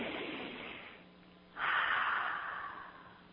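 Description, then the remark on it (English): A slow, deep breath: a long airy inhale, a brief pause, then a louder, fuller exhale that gradually fades, with no talking. “Ladies and gentlemen, take a deep breath.”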